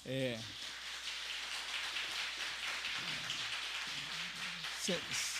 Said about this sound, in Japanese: もう一度私たちは歓迎の握手をしたいと思います。拍手をしたいと思います。